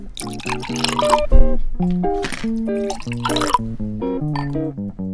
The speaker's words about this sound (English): All right, so we're going to put first our cranberry. Oh, sorry. Let me get back to the glasses. So I did sugar the rim on the glasses. So just roll your lemon juice around the top, and then we're just going to pour in the cranberry.